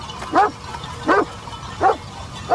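A nervous dog barks four times in short, evenly spaced bursts, with a tense, edgy quality over a low background rumble.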